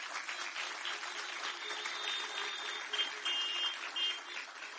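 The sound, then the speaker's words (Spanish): Steady applause from an audience fills the whole stretch, a dense clatter of many hands clapping at an even level, with a few brighter surges partway through and no talking over it. “Pero el diablo, dale el aplauso pues.”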